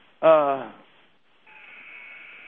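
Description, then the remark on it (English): A loud, raspy arena buzzer at a basketball game blares for under a second and fades, then a thinner, steady high-pitched tone sets in and holds to the end; the buzzer is set off just to make noise while a player is at the free-throw line. “Buzzer's just going off to make noise.”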